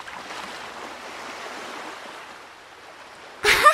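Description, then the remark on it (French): Seawater washes and churns steadily as people bathe in the sea, then a sudden loud splash breaks through at the very end as one swimmer splashes another. No voices are heard. “Arrête, tu m'éclabousses.”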